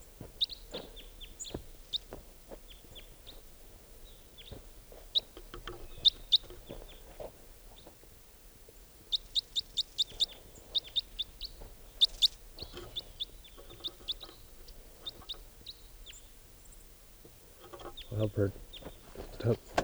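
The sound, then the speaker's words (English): Calls of a single wild juvenile type 4 crossbill perched in a tree near a net: short, sharp, high-pitched notes repeated in quick bursts, some loud and clipped, with scattered quieter chirps and low rustling noise underneath. “now I think that one lone type 4 bird is back, and it's perched in a tree near the net.”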